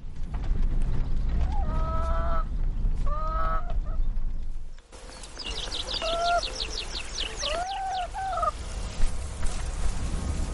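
animal, farm animals

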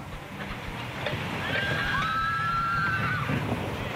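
animal, horse neighing

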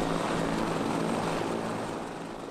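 vehicle, helicopter

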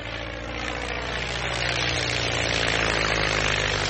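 vehicle, propeller airplane engine

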